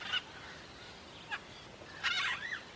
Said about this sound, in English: Oh, the sound of these birds is very beautiful. I can recognize some of these sounds.